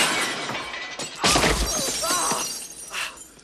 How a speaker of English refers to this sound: He fires, the driver slams on the brakes, Tango doesn't budge, the truck stops, the men crash through the windscreen.